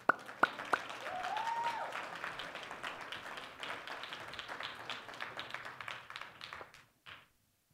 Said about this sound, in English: Well, Shabbat Shalom. Give the Lord a clap offering.